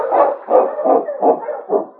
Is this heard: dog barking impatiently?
yes